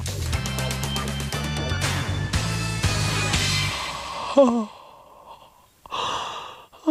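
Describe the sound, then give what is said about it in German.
A short musical jingle ends, then a person gives a voiced, rising yawn followed by a long, breathy exhale, fairly clear. “Heute, warum gähnen wir?”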